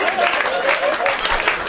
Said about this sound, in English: Shut up! Stop it! Stop clapping!